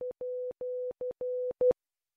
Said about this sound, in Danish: Og så er der det internationale Morse-alfabet, som får tilføjet et særligt symbol.